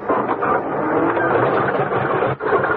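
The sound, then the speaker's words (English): A car engine cranks steadily without catching as someone tries to start the car, a dense, loud mechanical churning that breaks off briefly near the end before grinding on again. “Why doesn't this damn thing turn over?”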